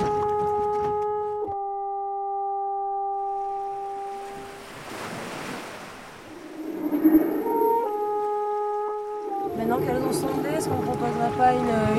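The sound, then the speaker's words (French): Steady droning boat engine hum with tonal harmonics, broken by a surge of rushing water noise midway, then a denser rumbling mix of engine tones near the end, with indistinct voices. “J'ai envie d'avoir beaucoup de sons parasites de bateau.”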